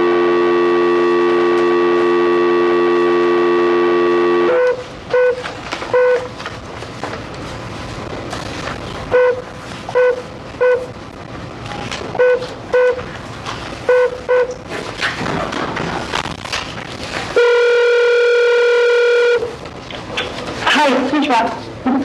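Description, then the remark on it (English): A phone line hums with a steady dial tone, then a string of short keypad beeps is tapped out amid muffled room noise, followed by a single loud ringing tone, a call placed by the Arizona Board of Executive Clemency during a parole hearing. “I believe we are supposed to make a phone call, so let's see if we can get the phone call”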